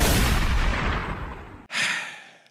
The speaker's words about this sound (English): We hear the gunshot in the background, in the distance.